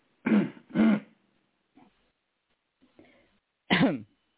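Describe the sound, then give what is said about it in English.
Two loud, harsh coughs in quick succession, then a few faint rustles and quieter noises, followed by one more strong, rasping cough with a throat-clearing quality. “I hear somebody coughing.”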